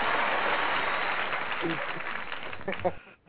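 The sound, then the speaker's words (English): An applause sound effect played for the season premiere of the North American Wrestling Connection: a burst of dense, steady crowd applause with a few cheering voices rising through it near the end, then tapering off abruptly. “So let's get some applause for that.”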